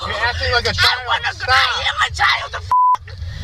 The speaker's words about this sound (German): Ich bin ein Kind, schreit das Mädchen zurück, gefolgt von einer Beschimpfung, die im US-Polizeivideo selbstverständlich mit einem Piepton überdeckt wird.